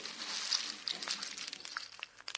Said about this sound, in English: Could you please tell me what's happening when you hear the snap, crackle and pop with Rice Krispies?